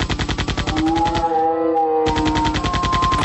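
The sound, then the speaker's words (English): Rapid automatic gunfire without silencers rattles in fast, evenly spaced bursts, loud, pausing briefly mid-clip while a ringing tone lingers, then resuming at the same relentless rate. “You may be asking why we're not using silencers. It's because we want to attract more of them.”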